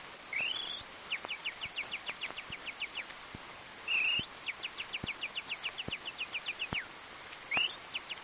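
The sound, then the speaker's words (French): A warbler sings alone: fast runs of short, high, repeated notes, broken now and then by brief rising whistles, continuing steadily with no voices. “Le chant de la fauvette.”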